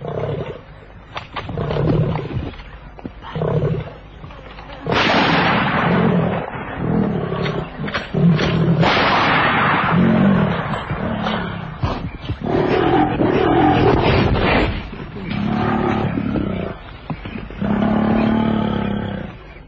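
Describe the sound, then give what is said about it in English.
A lion growls and roars in a series of deep, rumbling bursts, loud, with rough breathy pulses between them and no talking, in thick bush. “The growling stopped.”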